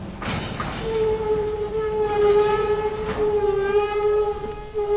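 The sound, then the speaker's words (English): A steam train, the delayed express from Tientsin to Peking, pulls in, its whistle sounding one long, steady blast over a rumbling, hissing background, loud, with a couple of brief bursts of noise. “Here she comes. The delayed express from Tientsin to Peking is gonna get a little lighter.”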